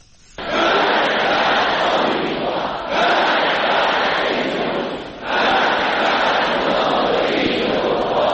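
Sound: crowd chanting political slogan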